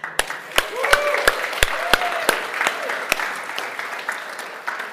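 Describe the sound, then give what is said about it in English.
A church audience breaks into applause for a couple celebrating their 25th wedding anniversary, a dense patter of many hands with sharp individual claps standing out, plus a few rising whoops and cheers over it, holding steady for the whole stretch. “Because we want to cheer for you.”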